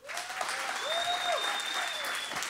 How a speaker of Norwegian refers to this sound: Hvis dere synes jeg var best, klapp nå.